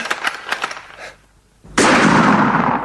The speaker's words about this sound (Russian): Все, надо им подать знак. Жаль, 3 выстрела, прям подряд. Ну-ка, жаль.